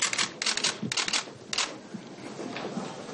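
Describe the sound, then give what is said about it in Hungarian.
Rapid bursts of sharp camera shutter clicks from photographers at a press conference in the Jobbik party's press room in the parliamentary office building, several overlapping in quick clusters, fire off over a low murmur of background noise, then thin out into a steady hiss. “Kamerákkal, fotósokkal és újságírókkal volt tele a Jobbik sajtóterme a képviselői irodaházban.”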